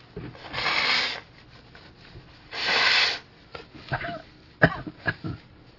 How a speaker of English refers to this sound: I'm just trying to take shortcuts because I know I need to blow my nose here, I think.